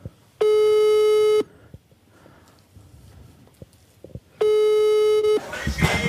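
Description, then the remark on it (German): An outgoing phone call rings: two steady, mid-pitched electronic ringback tones, each about a second long and roughly four seconds apart, with quiet background between them and a rush of noise at the end. “Ich rufe jetzt an, das klingelt schon.”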